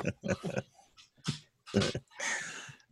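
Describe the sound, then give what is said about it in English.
Two dogs snuffle and snort as they playfully maul a person, a quick, irregular series of wet, breathy bursts mixed with low grunts, ending in a longer hissing sniff, with no talking. “The dogs are trying to eat me.”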